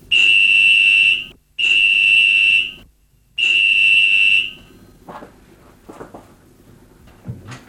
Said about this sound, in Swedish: Nu ringer telefon.